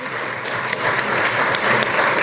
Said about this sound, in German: hat der Hans-Peter Portmann, was außergewöhnlich ist, im Parlament spontanen Applaus bekommen